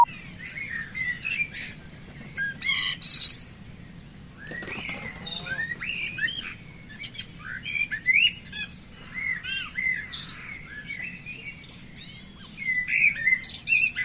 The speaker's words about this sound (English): We used to call it the Dawn Chorus. Thousands of birds, hundreds of birds. You'd hear them.